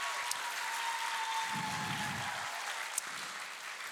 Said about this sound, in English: And in fact, I'm going to ask you to give two rounds of applause.